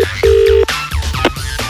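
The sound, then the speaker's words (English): Telephone tones of a call being placed to the radio station Plymouth Sound (97 FM): a brief beep, then a longer steady electronic tone lasting under half a second, followed by soft clicks and line noise. Loud, with no voices. “So we thought it'd be really funny if he phoned up a radio station,”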